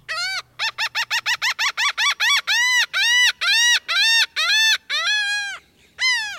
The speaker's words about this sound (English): The laughing gull is one of 16 gull species whose occurrence has been documented in Virginia, out of 20 gull species known in North America.